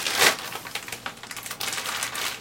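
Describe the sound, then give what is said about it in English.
A plastic bag is rolled up and crinkled, a steady run of dense crackling and rustling with small sharp ticks, heard alone without any talking. “Roll it all the plastic bag.”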